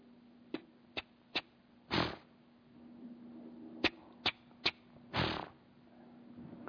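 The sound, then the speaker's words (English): A cat makes odd, abrupt noises: quick clicking chirps in small irregular bursts, broken up by two longer breathy huffs, all over a faint steady hum with no talking. “That was a cat.”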